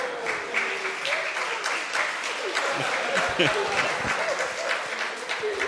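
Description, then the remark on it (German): An audience applauds steadily, a dense, even wash of many hands clapping for several seconds, with a few voices calling out beneath it, welcoming someone back with a hearty round of applause. “Jetzt hast du gerade schon gewunken, vielleicht willst du noch mal reinwinken für alle Leute und wir können dich noch mal herzlich begrüßen mit einem kräftigen Applaus auch.”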